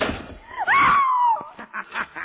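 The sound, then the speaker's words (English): A door swings shut with a drawn-out, high squealing creak, followed by a short run of sharp clicks and knocks as it latches and locks. “The door is locked and closed upon you, Shadow.”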